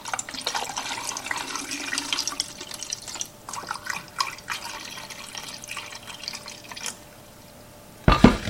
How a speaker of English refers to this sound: And for this, I'm just going to use the tap water. I'm just going to pour it right in.